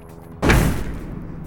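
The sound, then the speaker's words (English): A standard theatrical pyrotechnic silver star cartridge fires from a firing unit with one sharp, loud bang at about 0.4 seconds, with a flash and a shower of silver sparks, followed by a broad crackling, hissing rush that slowly fades over the next second. “Okay, this is a standard theatrical silver star cartridge. It's going to make a flash and a bang and shower some silver sparks into the air.”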